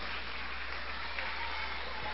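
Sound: audience applauding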